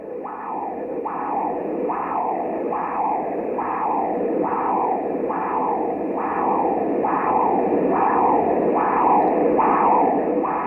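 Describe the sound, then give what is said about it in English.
Doppler ultrasound of blood surging through a person's brain, picked up by an ultrasound machine pointed at the temple, where the bone thins enough for sound waves to pass: a steady, noisy whooshing that surges in regular pulses about once a second, each beat rising then fading, with no voices. “This is blood surging through a person's brain.”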